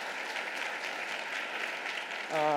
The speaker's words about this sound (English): thank you, a round of applause. Thank you for our staff. Thank you.